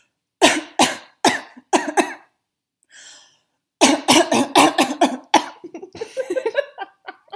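Someone coughs into their elbow: four spaced, muffled coughs, a short pause with a faint breath, then a rapid fit of coughs trailing off into wheezy breaths.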